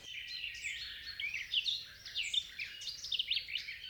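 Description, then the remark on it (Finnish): A dense chorus of birdsong fills a summer forest on a warm, sunny day, many overlapping chirps and trills twittering continuously at moderate volume, with no voices. “Metsä helisee lintujen laulusta.”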